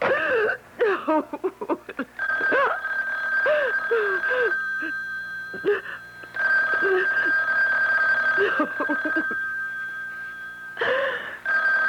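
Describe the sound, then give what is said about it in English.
A telephone rings on and on, a steady high-pitched tone holding for several seconds, while a voice moans and wails in uneven bursts over it. “You know you have to answer, darling. You know. Don't ever hang up on me again. I'll keep calling back.”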